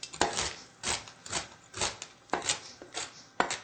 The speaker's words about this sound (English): So we've got raw almonds. We're going to give a rough chop.